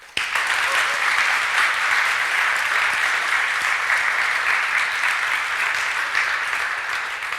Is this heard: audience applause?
yes